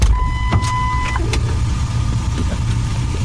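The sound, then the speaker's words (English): A car idles with a low, steady rumble while a door chime rings briefly and a few thumps and clunks sound as a woman climbs into the car and settles into the seat. “She gets in the car.”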